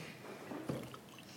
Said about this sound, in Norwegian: Jeg må helle litt vann.